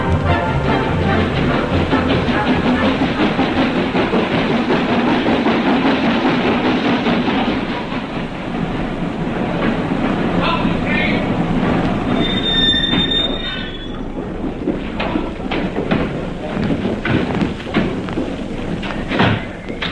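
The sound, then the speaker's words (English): A train rumbles in loudly with heavy clattering of wheels on rails, and a shrill metallic wheel squeal rises briefly near the middle as it slows. “Miss Faber asked me to meet the train.”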